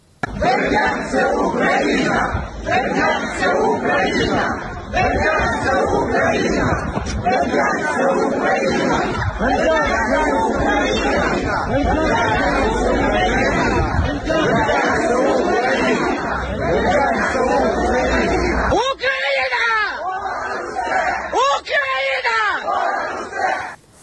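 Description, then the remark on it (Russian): A large crowd of residents protesting the Russian occupation of Berdyansk, a city in southern Ukraine, shouts together in loud, continuous chanting and yelling, unfurling a Ukrainian national flag and shouting that Berdyansk is Ukraine; voices overlap in a dense roar with rhythmic slogan-like bursts, a few individual calls rising near the end. “А люди развернули национальный флаг Украины и кричали, что Бердянск – это Украина.”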